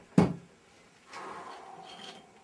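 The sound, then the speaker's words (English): A solid wooden thump, followed by a longer scraping slide as a drawer is pushed and pulled along its runners while a coat is locked away in it. No voices. “Before the cops arrived, I took her coat, locking it away in a drawer.”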